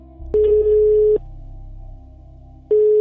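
telephone line tone

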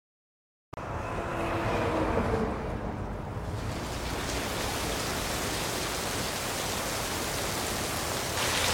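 heavy rain falling

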